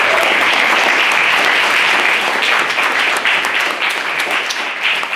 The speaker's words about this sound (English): So can we get a round of applause for them, please?